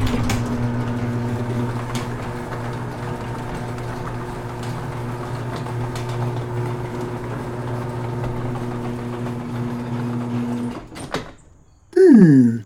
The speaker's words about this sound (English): He was just busy putting together the finishing touches on the automatic garage door on the house he had built with the bricks.